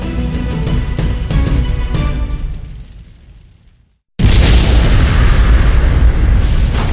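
A deep rumble fades to near silence, then a massive explosion at the BASF fertilizer factory in the village of Opal, south of Frankfurt, Germany, on September 21st, 1921, booms in abruptly and loud, its roar sustained as a heavy, crackling rumble with no voices.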